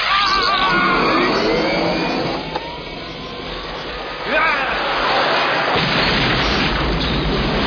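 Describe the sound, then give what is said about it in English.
A loud, sustained explosion roars from a film scene set in an old cement factory in Mexico City, dense rumbling noise filling the whole stretch, with a brief dip and then a fresh surge of blast and debris midway through. “We needed that explosion so that later they can say, oh, there was an explosion in the old cement factory.”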